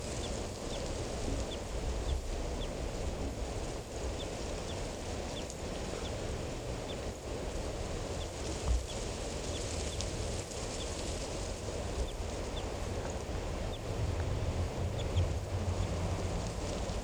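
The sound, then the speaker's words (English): A wild bird up in a tree, about 10 meters away, gives faint, short high chirps repeated at a fairly steady pace for the whole clip, half-buried under a constant rushing wind-like noise. “Start recording the wild bird again.”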